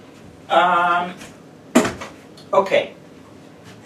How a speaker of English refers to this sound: Sorry, I have to fold the chair, and that's an IQ test, but okay.